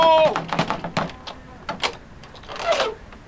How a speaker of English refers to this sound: You can't bang on the door and just demand... Hello? Hello?